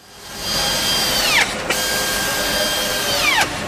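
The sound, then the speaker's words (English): Steady loud industrial machinery din on the car assembly line of Holden's General Assembly plant at Elizabeth in Adelaide's north, Australia, where sedan, wagon and ute bodies move along the trim line, with high whining tool tones that twice sweep downward as they spin down, plus a sharp clank in between. No one speaks. “This is Holden's General Assembly, the heart of Holden in Australia.”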